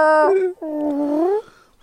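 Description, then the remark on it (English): A man imitates a cat meowing: a short, bright tonal call, then a longer, drawn-out meow with a wavering, falling pitch. It sounds fairly loud, with no talking. “That's very good what he does there. To do the cat, too.”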